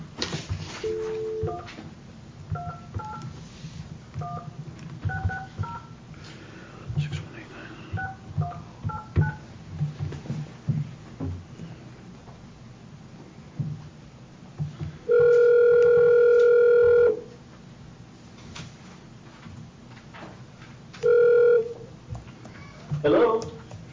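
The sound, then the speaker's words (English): A quick series of short, clipped telephone keypad beeps plays over faint background murmur as a call to the Eagle Nest Lodge people is dialed, followed by a long, loud steady line tone and later a shorter repeat of it. “Do you want to go back and call the Eagle Nest Lodge people?”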